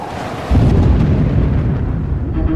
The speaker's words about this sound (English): and the empty stretch of sea seemed desolate, despite the cacophony of the thunderstorm that rained into the ocean. 30-foot waves smashed into each other with dizzying force as shrieking winds ripped any trace of warmth from the air.